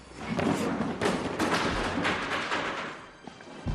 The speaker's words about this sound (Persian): اینجا چه خبره؟ چیزی نیست، صندلی افتاد.